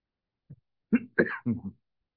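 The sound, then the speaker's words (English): A preacher about to begin a sermon clears their throat and coughs in a short run of three or four raspy bursts, starting with a faint one, then louder ones close together, with no talking. “Hopefully that water will lubricate my throat so I don't have to cough.”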